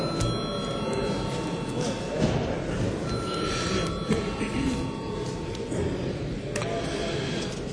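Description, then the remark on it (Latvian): An electric parliamentary voting call bell rings continuously for several seconds at a steady, fairly loud level, with a faint murmur of people beneath it, rung after deputies request a vote on a proposal. “Deputāti prasa balsojumu, lūdzu zvanu.”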